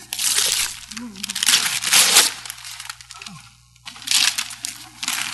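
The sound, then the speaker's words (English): Wrapping paper rips and crinkles in several loud, noisy bursts with brief pauses between as a woman tears open a gift, while voices murmur faintly underneath. “She's not going to save the paper.”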